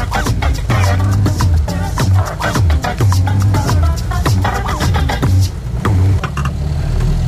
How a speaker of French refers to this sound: On arrive là, on va pas bien. Donc on range la voiture et sous tous les fougères.